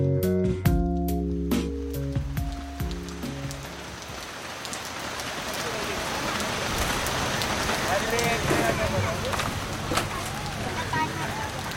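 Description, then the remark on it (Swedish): A few musical tones fade out as rain takes over in a town, drops pattering on a hard surface and falling ever faster, thickening into a steady, dense downpour. “Samtidigt som du packar ihop efter dagens arbetspass känner du hur regndropparna börjar falla allt snabbare.”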